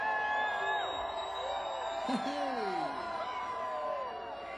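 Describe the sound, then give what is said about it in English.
A small concert audience of about eight people in Hoxieville cheers and whoops together, several voices overlapping in rising and falling shouts that carry steadily for a few seconds before easing off slightly at the end. “So this is for all eight of you that screamed the sound.”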